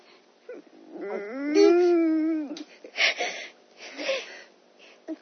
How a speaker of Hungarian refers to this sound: különben miért sírsz? Elvesztem, és most egyedül vagyok. Barátom sincs, és ez olyan szomorú.